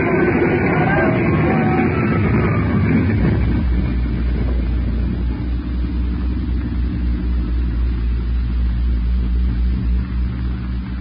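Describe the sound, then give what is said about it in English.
An airplane crashing into a hangar: a loud, dense roar of noise for about three seconds, then a steady heavy low rumble like an engine that continues to the end, with no voices. “Jake, we're going to crash. That hangar, we're going to hit it.”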